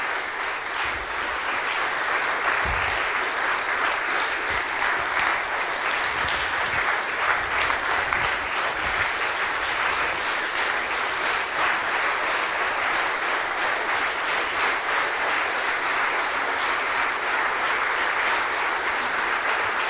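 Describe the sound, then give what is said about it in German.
A crowd applauds the event staff in blue T-shirts steadily for the full twenty seconds, a dense, even wash of many hands clapping without any rise or fade and no voices standing out. “Und es dürfen auch gerne alle mit dem blauen T-Shirt einmal nach vorne kommen und sich den Applaus abholen, also oder hinten stehen bleiben.”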